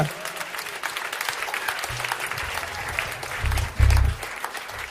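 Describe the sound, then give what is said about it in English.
A crowd claps their hands together to bless the Lord in a dense, steady burst of applause, a continuous patter with a low hum underneath. “Can you clap your hands and bless the Lord?”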